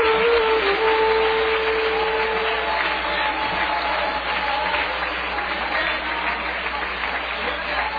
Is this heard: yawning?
no